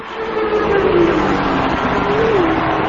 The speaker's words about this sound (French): Excuse-moi, 5 minutes là, mais je voudrais bien entendre un peu des moteurs tournés. Ok, bah je t'ai fait goûter là, je suis dans les paddocks à São Paulo. Je t'ai fait goûter le moteur. On s'y croit là.